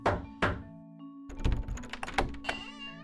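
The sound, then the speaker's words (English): James N. Wilkerson knocks on the door of Ross's drugstore in Villisca in 1914: two heavy, resonant knocks, a short pause, then a flurry of rattling clicks and thumps like a latch and the door moving, over a steady low hum with no voices. “After 2 months, he knocked on the door of Ross's drugstore and revealed his true identity.”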